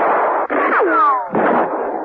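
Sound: gunfire exchange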